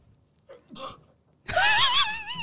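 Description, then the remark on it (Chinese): A single sneeze: two soft catching breaths, then a loud, explosive burst that trails into a wavering voiced tail, with no talking. “突然之间就打了个喷嚏， 背景有只狐狸在打喷嚏， 是不是被烧过？”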